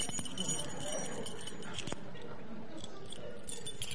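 A bunch of church keys, including a master key that opens every lock in the church, jangles and clinks with bright metallic rattles and one sharp click near the middle, over a low murmur.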